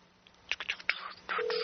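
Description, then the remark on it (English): A quick series of phone keypad dialing tones as someone dials to place a phone call, several short beeps in an irregular rhythm, followed by a steadier tone, clear with no one talking. “All right, we're going to try calling”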